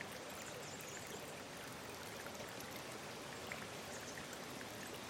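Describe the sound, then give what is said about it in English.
A river flowing down from the mountains rushes and gurgles steadily throughout, a dense, continuous wash of flowing water with small splashes and trickles, unchanging in level, with no voices. “Or you can look up and watch the willow branches swaying while you listen to the sound of the river as it flows by.”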